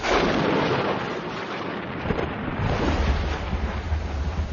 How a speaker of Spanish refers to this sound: La lluvia en el desierto de Arizona aparece en forma de tormentas cortas pero muy intensas.